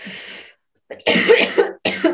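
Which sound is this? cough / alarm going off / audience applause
cough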